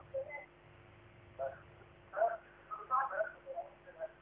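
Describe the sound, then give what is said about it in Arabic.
Faint, muffled television sound from a caller's end in Morocco carries over a narrow telephone line, indistinct voices and tones rising and falling in the background with a low steady hum beneath. “اخفض التلفاز، اخفض التلفاز واسمعيني من الهاتف.”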